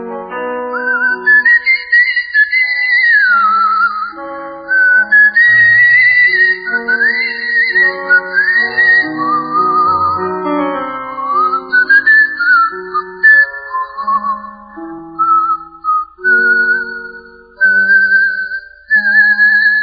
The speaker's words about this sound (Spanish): … le pide silbando. Qué lindo que es chiflar.